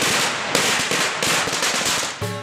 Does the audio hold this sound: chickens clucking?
no